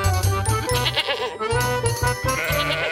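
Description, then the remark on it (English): A billy goat and a ram bleat loudly and almost without pause, their wavering cries overlapping in quick succession with a faint tinkle in the background. “There was once a man and a woman who had one billy goat and one ram.”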